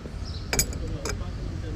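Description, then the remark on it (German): A cup is moved a little on a hard surface, giving two short, bright clinks about half a second apart, fairly sharp over a low, steady background rumble. “Wenn man dann noch die Tasse ein bisschen weg.”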